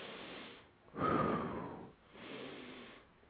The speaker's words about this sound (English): Breathe. Some people don't even have proper breathing, which is that can lead to, you know what I'm saying, a rapid heartbeat, too. I was always taught in through your nose, out through your mouth.